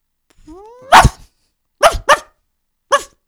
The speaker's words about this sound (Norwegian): Vi begge tappte fordi du hadde 5 bjeff. Vi hadde bare 1 bjeff. Jeg gjorde så, ingenting. Jeg altså, spilte videoen, fra YouTube.